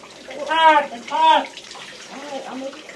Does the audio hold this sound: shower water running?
yes